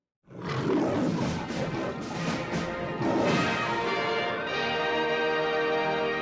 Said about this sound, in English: Oh, you know what that is? That is movie music. And it's Friday, so we're talking about movies.